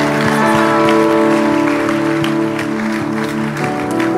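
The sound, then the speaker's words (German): An audience applauds steadily and loudly for a few seconds, a dense wash of clapping with sustained musical tones held underneath. “Lass uns Applaus geben.”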